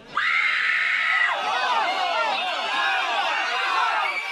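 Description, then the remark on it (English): A crowd screams in panic, a sound effect for fire from heaven coming down, one sustained high shriek rising out of the start before many overlapping cries and wails pile up into a loud, continuous chaotic din. “And after the anxious crowd, of course, when the fire of heaven comes down, I needed some very serious panic.”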